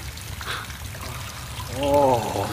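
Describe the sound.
Rain falling steadily, a continuous soft patter and trickle of water that fills the background, with a person's voice rising briefly over it near the end.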